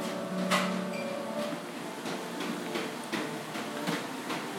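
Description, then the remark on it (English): Busy café kitchen ambience: a steady hum from the fridge and coffee machine, with scattered clinks and clatters of pots and dishes throughout, moderately loud. “Including the fridge, pots, the coffee machine.”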